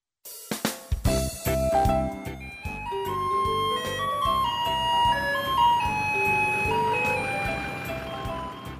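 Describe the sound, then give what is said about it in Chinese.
A garbage truck's music drifts in from afar: a bright, tinkling electronic melody over a steady, pulsing rhythmic accompaniment, playing continuously and fairly loud with no voices. “远远传来熟悉的音乐声，小克听到后开心大喊： 爸爸，爸爸，垃圾车来了！”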